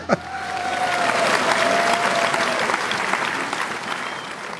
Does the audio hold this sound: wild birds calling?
no